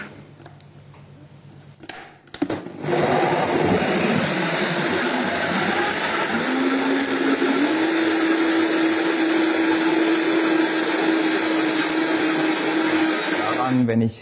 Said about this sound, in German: dann schaue ich einfach, wie die Konsistenz hinkommt und wie der Mixer das schafft, die minimale Menge an Wasser, um dieses Mangomus einfach zum Laufen zu bringen und um es zu mixen.